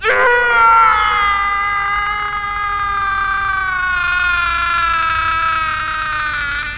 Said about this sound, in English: last scream made the gods very happy. That shriek lingers in my thoughts, echoing through every moment of my life.